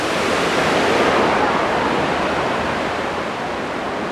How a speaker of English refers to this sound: Alright, I'm approaching now, and yeah, there is just like the spray from the waterfall is like spraying out quite a lot. So I'm guessing that's probably bigger than usual because of all the rain.